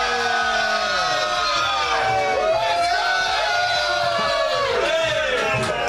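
A crowd cheers and whoops loudly and continuously, with rising and falling shouts layered over a steady wash of applause-like noise from start to finish.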